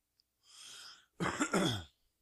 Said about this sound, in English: Cough, cough.